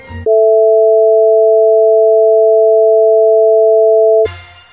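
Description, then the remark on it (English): A steady, pure electronic tone made of two close sine pitches sounding together, held loud and unwavering for about four seconds with no voices, bracketed by brief bursts of other sound. “Yeah, well, that's great, but can you sing a harmonized sine wave?”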